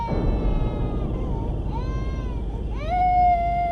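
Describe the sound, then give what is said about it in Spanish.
A baby cries from inside a box in a car's trunk, in two rising, wailing bursts, the second louder and more sustained, over a steady low rumble like a vehicle moving. “Después del ruido que hizo el movimiento y la pequeñísima sacudida que dio el carro, apareció un llanto.”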